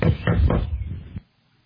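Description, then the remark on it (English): Three firm knocks on a door in quick succession by someone come to share the gospel, loud, with a low wooden thud that lingers briefly before silence. “So, you knock at the door and you share the gospel with them.”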